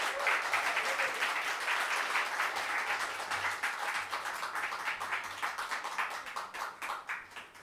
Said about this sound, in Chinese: 那今天很开心的就邀请他们来跟我们有这个音乐见证分享会哈。那我们就热烈掌声来欢迎